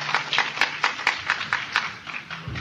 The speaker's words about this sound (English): When you applause, you are wasting the time of the speakers.